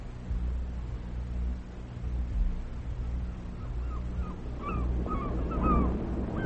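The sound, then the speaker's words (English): Seagulls perched on Nelson's Column in Trafalgar Square, London, above a partly submerged Northumberland Avenue, call in a cluster of short, rising-and-falling cries over a steady low rumble, starting partway through and growing busier toward the end. “Northumberland Avenue, partly submerged, seagulls perched on the column instead of pigeons.”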